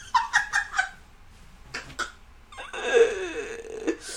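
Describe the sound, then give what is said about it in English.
Fairly loud fart sounds: a quick run of short sputtering bursts, a brief pause, then a longer, raspy, drawn-out fart that trails off. No one speaks. “Why do I have to fart every time this happens?”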